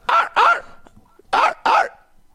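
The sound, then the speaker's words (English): A man imitates a dog barking: four loud barks delivered in two quick pairs separated by a short pause, with no talking in between. “Now, that dog bark is by a cat owner. That's very good what he does there.”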